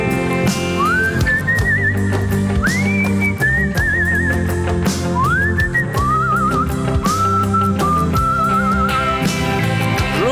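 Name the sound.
person whistling a tune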